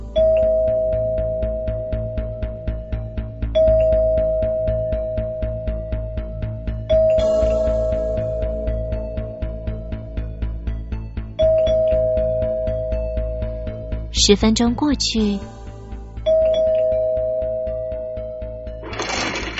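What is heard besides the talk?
doorbell ringing repeatedly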